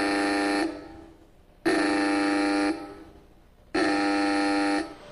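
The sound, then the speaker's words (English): An alarm in a server facility, an old German U-boat horn, blares in three long blasts of about a second each, separated by short pauses, its harsh buzzing tone rich in harmonics over a low steady hum. “And the alarm, in case of trouble, the alarm starts, and the alarm is actually an old German U-boat horn.”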